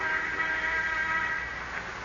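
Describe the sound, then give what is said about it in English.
An interoffice phone buzzes with a steady, continuous electronic tone lasting about two seconds, fairly loud, with no voices. “Until shortly before noon, the sound of the interoffice phone arouses him.”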